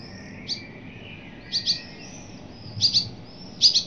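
Birds twittering in Vienna in short, high-pitched chirps that come in pairs and small clusters, with brief pauses between bursts, over a soft steady background hiss with no voices.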